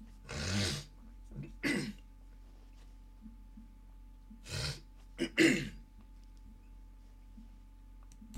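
A person coughs several times, a pair of harsh coughs, a pause of a few seconds, then a tighter cluster of three coughs, with quiet stretches and no talking.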